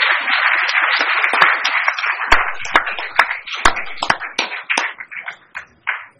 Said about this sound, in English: State champion, right? May I add, two-time defending, reigning state champion. That deserves another applause.